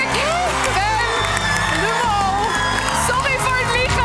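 A large crowd breaks into loud, sustained applause and cheering as a contestant reveals she was this year's mole, with whoops and excited shouts rising over a steady roar of clapping, and a low rhythmic musical thump underneath.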